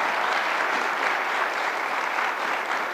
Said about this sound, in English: But first, let's give them all a round of applause for their dedication.